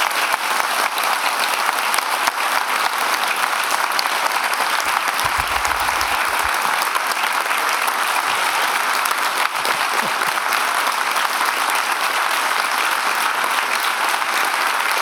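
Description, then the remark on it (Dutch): Steady, dense audience applause of students and local residents welcoming Dutch outgoing Finance Minister Ilko Heijnen to an interview, a continuous crackling wash of many hands clapping at an even loudness with no voices standing out. “Dit applaus is hangen. Dit is een heel goed applaus.”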